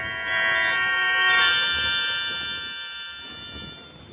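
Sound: doorbell ringing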